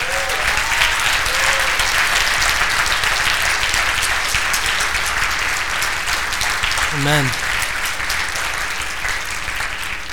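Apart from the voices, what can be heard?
church audience applause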